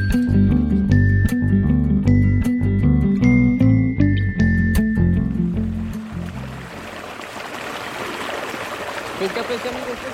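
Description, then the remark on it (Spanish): A short melodic passage with chiming, tinkling notes fades into a steady wash of the Magdalena River flowing, a continuous rushing, bubbling sound that carries on alone for the last few seconds. “Ana está al lado del río Magdalena, junto con unos pescadores y unas mujeres que lavan su ropa en la orilla del río”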